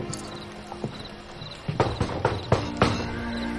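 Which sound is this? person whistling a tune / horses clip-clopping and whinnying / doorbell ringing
horses clip-clopping and whinnying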